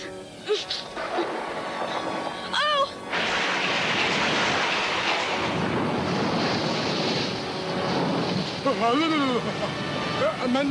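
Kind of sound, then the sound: nature, thunder crash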